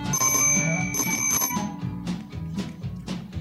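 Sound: bicycle bell ringing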